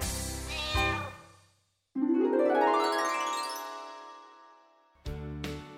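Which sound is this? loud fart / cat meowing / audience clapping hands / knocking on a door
cat meowing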